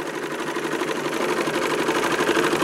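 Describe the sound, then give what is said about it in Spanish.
A sewing machine runs steadily, its fast mechanical clatter forming a continuous, even whir with no pauses and no voices; a man sewing a pair of trousers on it. “Sin perder más tiempo, se sentó frente a su máquina de coser.”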